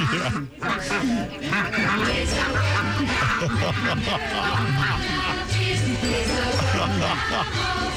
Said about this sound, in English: Yeah. Oh, here come the geese.